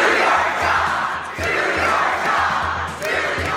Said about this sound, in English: At a raucous town hall meeting in Utah, Congressman Jason Chaffetz, chairman of the House Oversight Committee, was shouted down for not investigating President Trump.